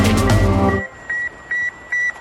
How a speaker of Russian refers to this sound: От ностальгических звуков ICQ мы переносимся в сегодняшний день, где масштаб уведомлений — это уже не тысячи и даже не миллионы сообщений, а миллиарды каждый день.